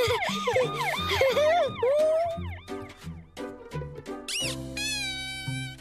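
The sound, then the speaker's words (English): A toy fire truck's electronic siren wails loudly, rapid tinny up-and-down warbles giving way to a few swooping whoops and steady beeping tones, with no one talking. “It's got a siren!”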